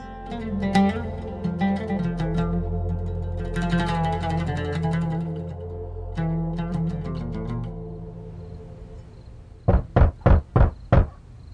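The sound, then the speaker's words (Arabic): Five firm, loud knocks on a wooden door in quick, even succession, coming right after a stretch of soft background music; Saul knocking at Barnabas's door in Jerusalem. “مين اللي على الباب؟”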